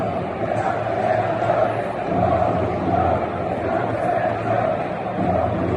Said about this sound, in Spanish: en el Bernabéu se escucharon gritos de corrupción en la federación y también se ha pedido la renovación de Ceballos. Lo de corrupción en la federación, evidentemente, hay que explicarlo.